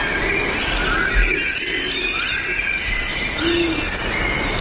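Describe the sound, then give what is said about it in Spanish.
A long-eared owl gives a few soft, low hoots, spaced well apart, at night in a laurel forest, over a steady hiss of night insects and ambient background noise. “El búho, del búho chico.”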